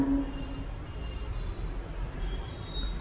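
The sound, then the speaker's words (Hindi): A train rumbles past, a steady low roar with faint high metallic tones riding on top, continuing without a break and with no voices, at about 8:16 in the evening on 22 April 2006. “8:15 है अभी शाम की, आज 23 है नहीं, कौन सा तारीख, 22 अप्रैल 2006, 8:16 16 में वही टाइम है अगर गाड़ी ठीक समय पर हो।”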